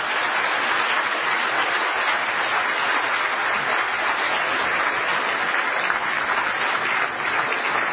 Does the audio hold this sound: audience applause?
yes